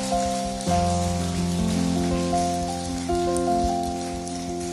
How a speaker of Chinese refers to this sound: 我们把最大的掌声归给我们的神。